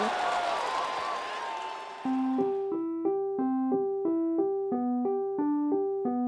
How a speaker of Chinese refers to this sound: 故事开门，请掌声鼓励鼓励鼓励鼓励。